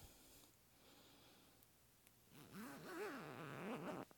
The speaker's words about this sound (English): Baby, will you get my zipper?